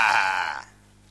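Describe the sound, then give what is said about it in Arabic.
A person gives a short, loud, nasal bleat in imitation of a sheep, a single bray lasting about half a second before the sound drops away to near quiet. “واقيلا حبيت ترجع خروف منك بس.”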